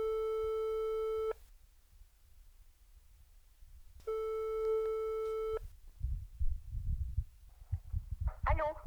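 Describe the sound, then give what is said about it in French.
Two long, steady ringback tones of an outgoing telephone call, separated by a few seconds of silence, followed by muffled handling noise and faint voice-like sounds as the call connects. “Nous finissons l'émission à distance, par téléphone, avec les participantes que j'ai appelées afin de prendre des nouvelles pendant cette période de confinement.”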